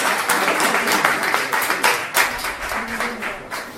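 A crowd applauds steadily for a few seconds, a dense, even wash of many hands clapping at once, fairly loud, with no one speaking over it, welcoming the number 3 candidate of Entesa.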